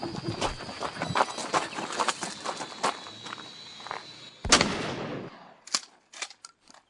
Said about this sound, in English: It sounds like you can hear the shotgun blast from the drone.